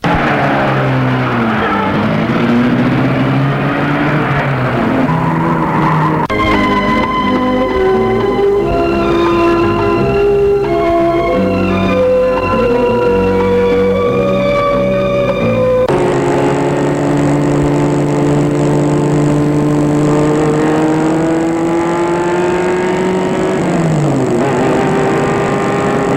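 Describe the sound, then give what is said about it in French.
A car engine runs loudly and steadily, its pitch rising and shifting as it revs and drives off in the evening, leaving Lyon, with no voices over it. “Et le soir arrivant, avant de prendre sa voiture pour s'en retourner, elle alla dans un café.”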